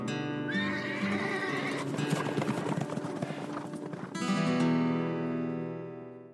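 A horse lets out one long, loud whinny, rising and shrill at first, then breaking into a shaky, fluttering neigh that trails off. It is heard on its own, with no talking.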